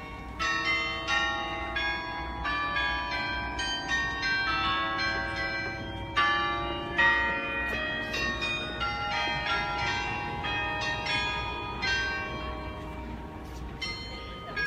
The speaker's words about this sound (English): Yes, the bell tower of the mayor's office. And it, like I said, it was just by accident when I realized what time it was and that whole thing started up. Otherwise, I literally would have missed it.